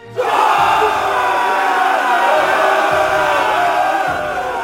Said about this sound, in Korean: 문득 아득한 저편에서 누런 먼지가 일어나며 점점 하늘의 해를 가렸다. 그리고 그곳으로부터 하늘을 뒤흔들 듯한 함성이 일어났다.